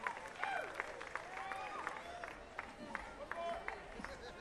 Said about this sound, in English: Hey, now, don't stop applauding for ….